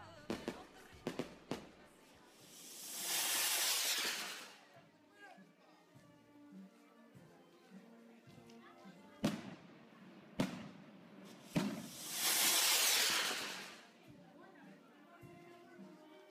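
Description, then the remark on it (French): Sharp firecracker bangs, thrown to announce a summer festival, go off in irregular bursts, each cracking and rolling away with a long echo through the valley, interspersed with broad whooshing swells of noise and a faint murmur of voices. “Bon bah fini les grasses matinées parce que ça commence par des lancers de pétards qui résonnent dans toute la vallée pour annoncer la fête bien sûr.”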